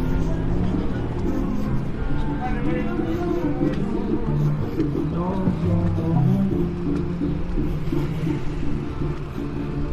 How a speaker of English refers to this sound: Oh, there's a Pepsi truck.